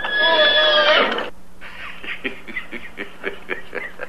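A loud, shrill horse whinny lasts about a second and cuts off abruptly. A quick run of short, breathy pulses follows, like snorting or sputtering.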